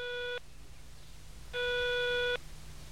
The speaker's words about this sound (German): Justus ließ es 8-mal klingeln. Dann legte er enttäuscht auf.